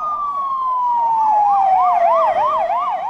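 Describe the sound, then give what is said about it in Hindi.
Police vehicle sirens wail loudly and continuously during a police operation in the Schaerbeek area of the city, Belgium, two tones overlapping: one sweeping slowly downward while another warbles rapidly up and down, with faint road noise underneath and no one talking. “शहर के शारबीक इलाके में पुलिस वाहनों के सायरन सुनाई दिए।”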